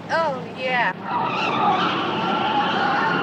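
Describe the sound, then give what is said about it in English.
A car swerves onto a quiet side street with loud, squealing tires: two sharp, wavering screeches in the first second, then a steady rush of engine and road noise that carries on. “The car turns onto a quiet side street.”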